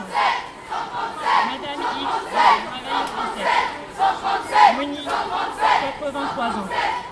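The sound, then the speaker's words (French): A large crowd at a feminist demonstration on a rainy day screams together during a minute of collective screaming, a sustained, surging roar of many high-pitched voices swelling and dipping in uneven waves without pause. “Et j'ai particulièrement aimé la minute de cri.”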